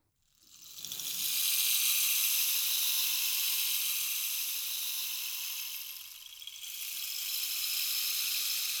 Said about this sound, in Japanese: 綺麗な音。まるで雨音のようだろう。これはレインスティック。雨を降らせる魔法の棒だ。